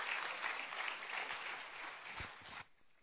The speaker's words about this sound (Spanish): Así es que, bueno, un aplauso entonces, hermano, 36 y contando.